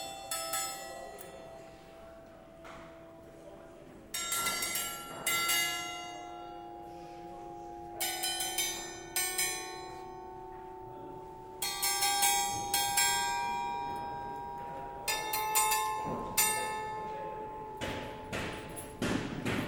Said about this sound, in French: Nous sommes à la campanelle. La campanelle ? Un instrument extraordinaire. Une batterie de cloches et de sonnailles.